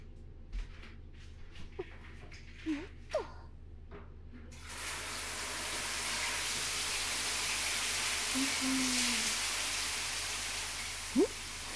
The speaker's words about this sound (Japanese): はい、じゃあお風呂一緒に入りましょう。シャワーお借りしますね。